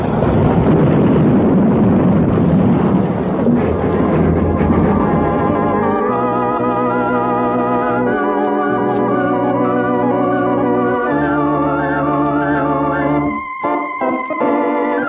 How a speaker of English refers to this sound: And when it plowed into the back end of the work train, it scattered men in a circle 200 yards wide.